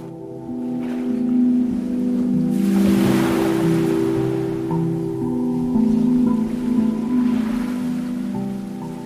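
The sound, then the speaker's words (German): Ocean waves wash in and recede in a couple of soft, broad surges, blended with a steady, sustained musical drone that hums underneath throughout. No one speaks. “Spürst die Wellen und die Klänge in dir.”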